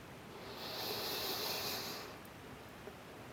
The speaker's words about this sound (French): Alors, il décida de faire sa respiration magique. Il inspira très lentement.